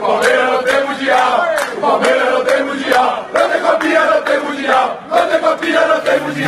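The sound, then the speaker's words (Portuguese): A large stadium crowd of Flamengo football fans chants loudly in unison, taunting Palmeiras fans, the rhythmic, sing-song phrases repeating with dense, echoing voices that fill the space continuously. “Não foi só torcida não”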